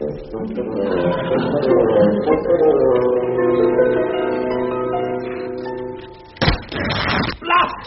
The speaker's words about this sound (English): Blast! Well, yes. I slammed the door on my coat.